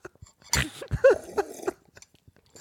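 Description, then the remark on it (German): Someone takes a sip of a drink: a short wet slurp followed by a few gulping swallows and small mouth clicks, fairly loud, with no talking. “Ich trinke einen Schluck, hör mal.”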